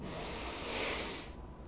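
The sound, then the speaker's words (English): A soft, airy rush of many people in a spiritual community inhaling together during a breathing practice, swelling gently for about a second and then fading, with no talking over it. “sound both to the inhale and exhale so that we might have a sense of one another”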